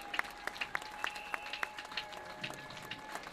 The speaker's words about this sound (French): Ça suffit. On peut applaudir, ça.